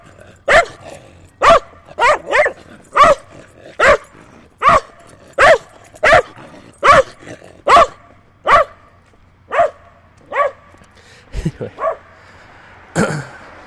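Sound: dogs barking and growling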